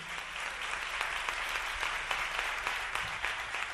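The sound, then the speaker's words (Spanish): A concert crowd applauds the performer's musicians steadily, dense overlapping claps forming a continuous wash of sound at moderate loudness with no voices standing out, sustained for the whole stretch. “Un aplauso más fuerte para ellos.”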